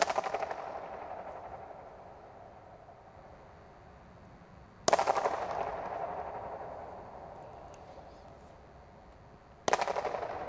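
Three sharp slaps of two slippers struck together under a bridge, evenly spaced, each followed by a fast, buzzing flutter echo that rattles and slowly fades over several seconds. No one speaks.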